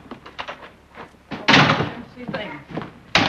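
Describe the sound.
A door bangs open with a loud thump as someone enters through another door, followed by shuffling and a second sharp knock as it shuts, with voices murmuring around it.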